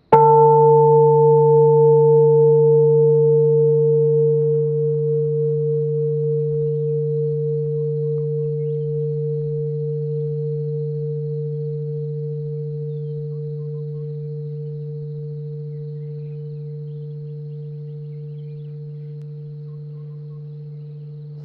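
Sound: temple bell ringing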